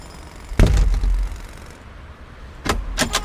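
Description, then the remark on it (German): A brothel's business manager unlocks and opens a door for the police: a sharp metallic clunk, a short pause, then a quick cluster of clicks and rattles from the lock and handle. No one speaks. “Gut, dann machen Sie mal die Tür auf.”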